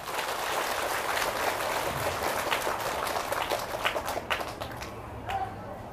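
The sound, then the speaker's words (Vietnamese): An audience at a Buddhist talk claps together in a dense, steady burst of applause that holds for several seconds, then thins out into a few scattered claps before fading away. “Cho nên ở phương diện đó, quý vị hãy cho một tràng vỗ tay nữa.”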